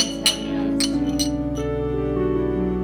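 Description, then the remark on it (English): Small shot glasses of tequila clink together a few times in a celebratory toast, in quick, bright taps, each ringing briefly over a steady musical background, fairly clear. “But for now, we finish up the paperwork and all cheers a shot of tequila to celebrate, as friends often do.”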